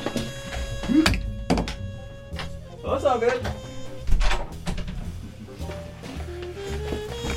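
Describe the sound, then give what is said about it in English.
A door thunks open and shut with a few sharp knocks and clatters, while people talk casually over the movement. “I'm just gonna get the door real quick.”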